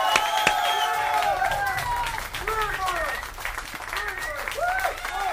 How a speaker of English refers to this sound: That's DMC champion plus one. Fantastic. More applause, I think.